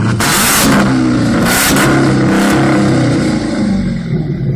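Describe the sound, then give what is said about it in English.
A '73 Dodge Challenger's V8, an American car assembled from two junked-up '73 Challengers, revs loudly, a deep rumbling growl that surges in a couple of bursts and holds steady for several seconds, with no one talking. “My brother-in-law bought two kind of junked up '73 Dodge Challengers, and he's a motorhead, and he put them together and made this beautiful fucking car.”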